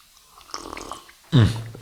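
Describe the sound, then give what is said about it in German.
Soft, crunchy chewing of Terrassenplatzl cookies in a few quick irregular bites, followed by a sudden loud, low, throaty sound like a satisfied hum or grunt that lingers briefly. “Das sind die besten Terrassenplatzl, die ich jemals gegessen habe.”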